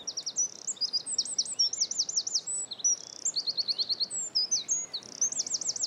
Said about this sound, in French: Donc il y a le troglodyte mignon qui est chanté quand on est arrivé, avec son chant puissant pour la taille de l'oiseau.